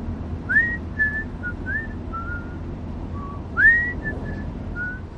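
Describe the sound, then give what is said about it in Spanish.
Someone whistles a simple melody, a string of clear, steady notes with a few rising slides, over a low rumbling hum. The whistle stays moderately loud, with a short pause midway. “¿Qué silbas? No me digas que has vuelto a componer.”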